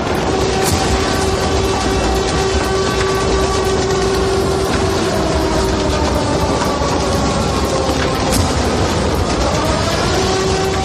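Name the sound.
air raid sirens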